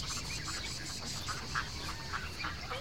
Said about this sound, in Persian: گلی اردک ها رو با چوب هدایت میکنه.